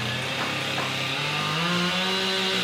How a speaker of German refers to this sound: Dutzende Mitarbeiter des Katastrophenschutzes arbeiten auf der Maria-Entschlafenskathedrale, hämmern und sägen.